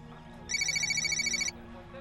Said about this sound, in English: Jack receives a call on his cell phone.